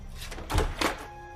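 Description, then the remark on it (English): The front door of a mansion opens, with a latch clunk followed by a second soft thud about a quarter second later, then quiet room tone. “As Samantha opens the door, Jade holds up a set of keys.”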